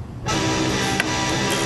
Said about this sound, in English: Is that from a ukulele? Is that from the Danger? No, this is from a guitar that's tuned like a ukulele. I can barely hear it over the phone, but maybe on your audio will be able to hear it.